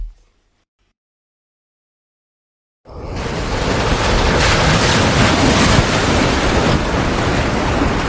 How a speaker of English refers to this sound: A ship tossed in the ocean with 100 head of cattle moving back and forth violently. The moos could be heard, the creaks of wood, whoosh of the wind.